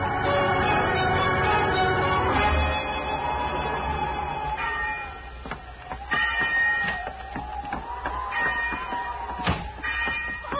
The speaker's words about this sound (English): She's been ringing the bell.